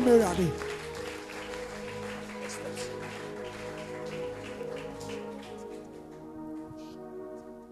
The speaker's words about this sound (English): Clap your two hands together for them.